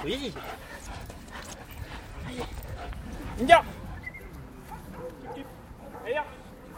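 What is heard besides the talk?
dog whimpering and barking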